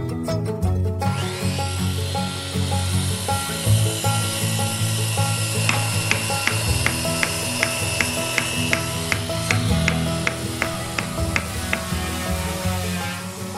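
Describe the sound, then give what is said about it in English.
A steady, gritty scraping of wood being sawed, building into quick rhythmic strokes that repeat evenly for several seconds, fairly loud over a low continuous hum. “then the administration started coming up because they're hearing a lot of sawing and they're hearing, you know, they're probably smelling dust and there's like, you know, the smell of epoxy.”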